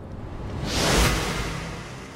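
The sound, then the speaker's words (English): A single airy whoosh swells up from a hiss, peaks loudly around the middle, then trails off into a softer rushing tail, with no voices. “I think I need a whoosh or something.”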